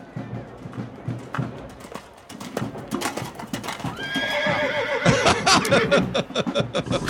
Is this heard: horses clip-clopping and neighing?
yes